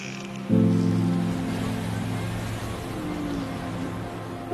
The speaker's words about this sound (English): The sound of the ocean is something that, you know, I think many of us know, even if we don't live near the ocean on a regular basis.